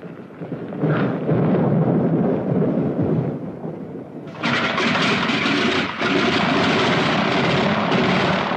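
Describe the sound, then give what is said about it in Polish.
Loud, steady roar of airplane engines running up on the ground at Szczecin before takeoff on a weather-delayed flight via Poznań to Warsaw, a broad rumbling drone that surges to a fuller, brighter pitch partway through and holds there, with no voices. “Opóźniony z powodu złych warunków atmosferycznych samolot ze Szczecina przez Poznań do Warszawy odleci za chwilę.”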